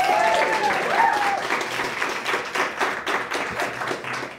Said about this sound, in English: Round of applause for him again.